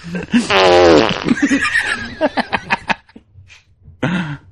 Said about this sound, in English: Fuck. I just had a fart that hurt my balls, so I'm kind of out of commission right now.